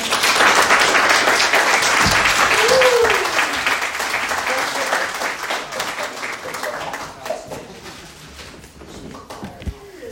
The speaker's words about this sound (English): Let's give Kristen another round of applause.